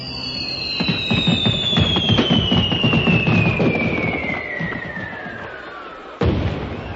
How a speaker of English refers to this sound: Start the fireworks. Get going. Light the touch papers.